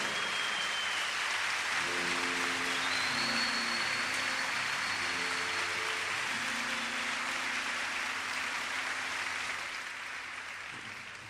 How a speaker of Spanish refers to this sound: Uno se lleva los aplausos arriba de un escenario, pero en realidad ellas merecen muchísimo más aplauso que nosotros. Así que un aplauso para nuestras mujeres.